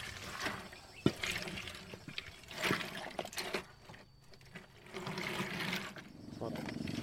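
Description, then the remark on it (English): Water from the Namur River rushing steadily through a channel that ethnic Kamu women are clearing to pan for gold, with intermittent splashes and scraping knocks, while faint voices murmur. “They are clearing a channel so that the water can go through from the river.”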